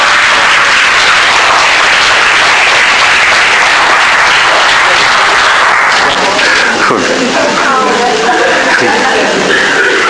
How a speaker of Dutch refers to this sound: Nou, we geven er niet alleen een applaus.